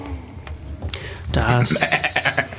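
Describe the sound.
A person imitates a goat with a loud, quavering bleat that wavers for about a second, preceded by some faint background noise.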